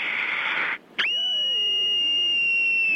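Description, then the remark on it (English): An 8-year-old child screams loudly: a harsh, breathy shriek, a brief break, then a long, piercing, high-pitched scream held steady until the end, with no talking. “I'm 8 years old, and here's my scream.”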